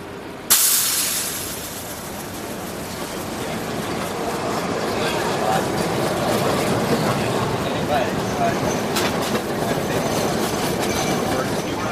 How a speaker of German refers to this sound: An der Ecke Market und Powell Street steigen wir aus dem Schacht der Nahverkehrsbahn die Treppe hinauf. Der erste Anblick, ein Gewirr von Autos, Bussen und Straßenbahnen.